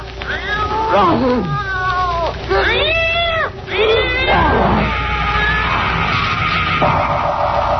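A cat yowls loudly in a series of long, wavering wails that rise and fall, one after another over a low, steady background rumble, outdoors in thick fog by a gravel path.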